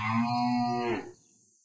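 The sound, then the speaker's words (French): A single long moo from a cow on a farm, loud, holding steady for about a second before sliding down in pitch and cutting off into quiet. “Merci la vache.”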